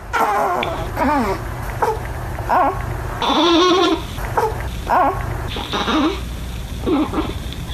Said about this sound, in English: So that's your baby? That's the baby in the middle of the night as you're trying to sleep. So you hear these noises and you can't sleep.